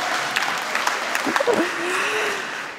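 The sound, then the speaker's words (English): An audience at an evening panel event applauds steadily as a panellist is introduced, a dense wash of clapping that fills the whole stretch, with a brief whoop or cheer rising out of it midway. “You're allowed to clap for me more, it's okay.”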